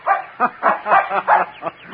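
A terrier puppy named Nick barks in a quick, excited run of about six high, yappy barks, fairly loud with short gaps between them and no talking, during a run in the woods of a park near the ocean in autumn.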